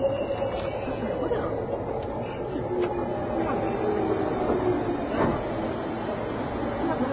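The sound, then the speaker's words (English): Indistinct murmur of several passengers talking inside a moving train going into Yoyogi station in Tokyo, over the steady rumble of the train, the voices blending into a continuous background babble with no clear words standing out. “And there are actually people talking on this train. It doesn't happen often, but it's happening now.”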